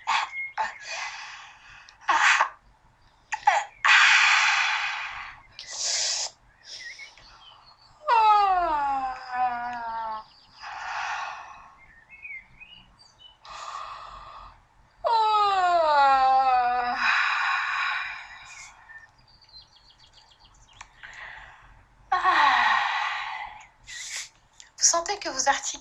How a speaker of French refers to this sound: Et puis, vous voyez là, tout en vous dictant, j'ai envie, j'ai pas trop envie mentalement, mais mon corps, lui, il dit, j'ai envie de bâiller.